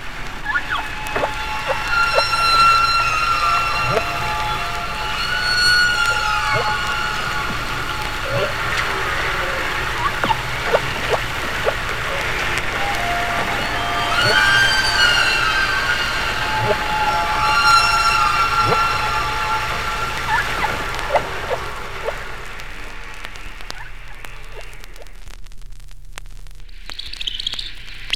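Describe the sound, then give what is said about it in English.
Humpback whale song: a continuous run of moaning, rising and falling tonal calls, rich in harmonics, with occasional squeaky whoops and no pauses, fading out near the end. “Unlike bird songs, humpback songs are very long, 6 to 30 minutes, and are strung together without pauses between them.”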